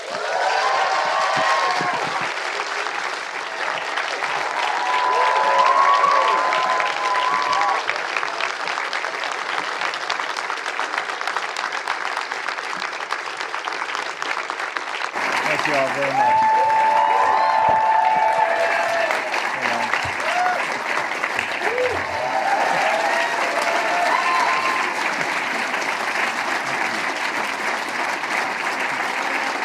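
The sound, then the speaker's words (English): Sustained applause from a large audience for Tom Cruise, a dense wash of clapping with occasional cheers and whistles, steady and loud throughout with a brief shift midway. “Friends, please keep that applause going for Mr.”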